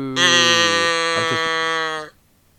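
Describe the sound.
A person imitates a cow with one loud, drawn-out moo lasting about two seconds, buzzy and steady with a slight waver midway, then stopping abruptly into silence.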